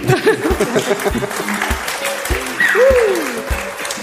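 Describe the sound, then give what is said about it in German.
A live audience at the Kirchentag in Fürth, Germany, on 8 June 2023 claps steadily for several seconds, a dense, even wash of applause with some scattered whoops and cheers rising over it. “Diese Folge entsteht vor Publikum. Mach dir einmal ein kleines Geräusch.”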